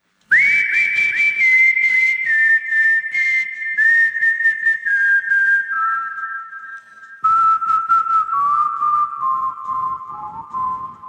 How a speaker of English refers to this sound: Whistling seemed like a good way of like presenting a melody without making it either that way or the other way, you know. Whistling is just like, oh, it's a pure note. It was a placeholder. The idea was to use it as a riff, but not whistling.